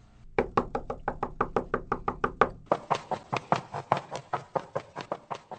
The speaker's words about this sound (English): No need to knock on your own door.